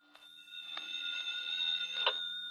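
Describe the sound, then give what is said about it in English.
A telephone rings at 7 o'clock with a steady, high electronic tone that holds for a couple of seconds, broken by a few faint clicks, alone with no voices. “At 7 o'clock, my phone rang.”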